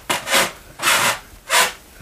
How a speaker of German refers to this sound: Oh Gott, ob das später in unserem Haus auch so sein wird, dass man das so knarren hört, dass die Leute, die unter uns sind, immer hören, wenn du da oben lang gehst, so bäm, bäm, bäm, bäm.